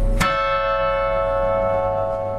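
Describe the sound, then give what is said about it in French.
A carillon bell is struck once, loud, its bright ringing overtones sustaining and slowly fading over the next couple of seconds, with no voices. “Donc voici une mélodie jouée piano, et forte.”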